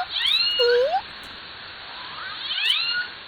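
killer whale call

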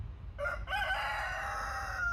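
rooster crowing

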